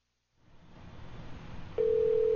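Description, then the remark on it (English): A telephone line ringing on a redial after a dropped call: after a rising hiss of line noise, a loud, steady ring tone cuts in and holds to the end. No voices. “It ringeth.”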